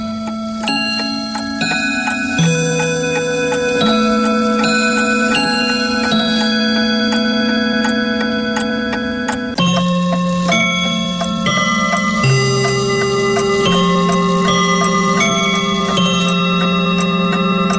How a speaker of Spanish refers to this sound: Siempre midiendo el paso del tiempo, los relojes.